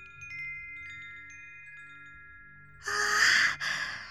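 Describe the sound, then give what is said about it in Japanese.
Several bright, shimmering tones from a wind chime hang and slowly fade together for a few seconds, then a loud breathy rush like a sigh or exhale cuts in. “これはね、ウィンドチャイムっていうの。”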